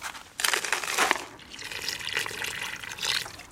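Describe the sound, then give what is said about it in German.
Water pours into a mason's plastic bucket of dry ready-mix concrete to make the mix, a splashy gurgle that swells twice and runs on without pause, with no voices. “Der ist aus Fertigbeton, der feinste, den man verwünscht, und Wasser.”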